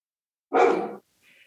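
A single loud dog bark at someone outside, sharp and full-bodied, followed by a brief faint high whine or yip trailing off.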